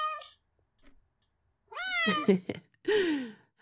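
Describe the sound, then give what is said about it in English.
A hungry cat meows insistently, a short cry followed after a pause by a long rising-and-falling meow and then another drawn-out, demanding yowl. “Oh, fine, fine, I'll find some salmon. Fussy, fussy kitty.”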